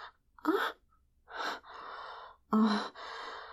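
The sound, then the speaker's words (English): A woman gasps sharply several times in quick succession after being slapped, breathy intakes mixed with longer exhalations, moderately loud, with no talking. “He slaps my ass hard, making me gasp.”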